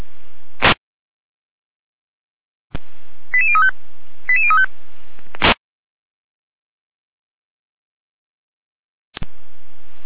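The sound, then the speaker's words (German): Dispatch center radio alerting tones for a fire service callout to a reported oil spill on Bergstraße: two short sequences of high electronic tones, with a sharp radio click or squelch burst before and after, over a faint hiss; no one speaks. “Leitstrecke mit Alarmierung.”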